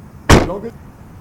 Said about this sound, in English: That's because I closed the rear door on her head.